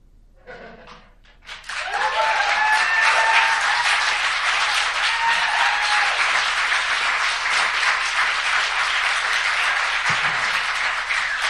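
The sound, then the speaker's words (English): A brief quiet opening gives way to loud, sustained audience applause for the actors after a performance of the play Forever Amber by Pete Barrett, dense steady clapping from many hands with a few faint cheers and whoops mixed in, continuing to the end. “A big round of applause for our stage fright actors.”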